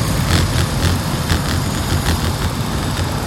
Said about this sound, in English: Pretty steady flow of traffic.